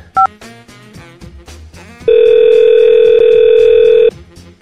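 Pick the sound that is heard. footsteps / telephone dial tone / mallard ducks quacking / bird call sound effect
telephone dial tone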